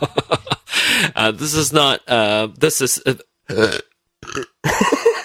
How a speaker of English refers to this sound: excuse me. I burped.